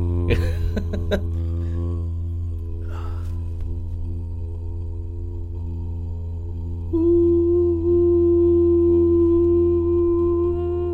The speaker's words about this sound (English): There is, if you get two tones like that, you actually make the phone busy signal. Oh, yeah. Or the dial tone.